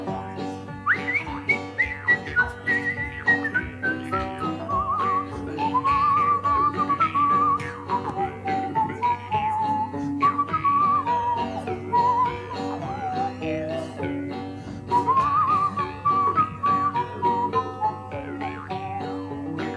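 Someone whistles a lilting melody, clear and fairly loud, gliding between notes over a steady instrumental backing that drones underneath for the whole stretch.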